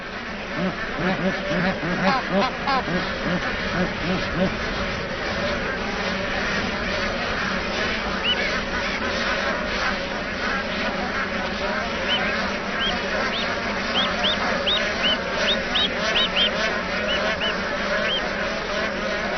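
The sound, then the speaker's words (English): A flock of bar-headed geese honking continuously, many overlapping calls, with some higher chirping notes rising above the steady clamor. “Having spent the winter south of the Himalayas, bar-headed geese make the hazardous mountain crossing each spring to breed on the plateau's lakes.”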